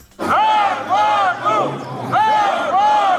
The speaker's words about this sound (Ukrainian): Зранку такі вигуки лунають під стінами облдержадміністрації. Кілька тисяч працівників Черкаси Обленерго вже більше 4 місяців без зарплати.